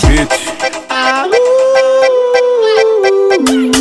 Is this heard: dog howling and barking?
yes